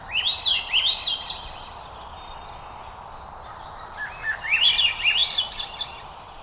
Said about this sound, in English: This is not a flying saucer hovering over western Arkansas. Little green people are not taking over Earth. This is Swainson's thrush, not a Martian, but rather a modest olive-backed bird, cousin to our familiar robin.